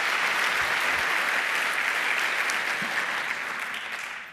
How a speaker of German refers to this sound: Und bitte um einen herzlichen Applaus von euch für ihn.